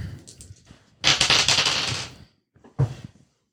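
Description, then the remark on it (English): Dice are rolled again in a dice box: a burst of fast, dense clattering lasting about a second, with a few softer knocks before and a single sharp tap afterward. “Can't go grab different dice for that now. I'll roll these again.”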